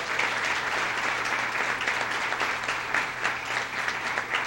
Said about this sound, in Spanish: Le damos un aplauso a Marta Pinto de Hart.